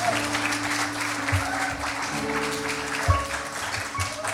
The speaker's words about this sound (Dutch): Oké, dan gaan we je verwelkomen met een dik applaus, omdat we geloven dat God door je heen gaat spreken.